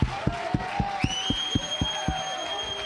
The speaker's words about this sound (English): Clap your hands, all you people. Shout to God.